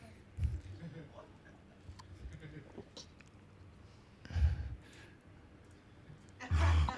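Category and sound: human body sound, sipping water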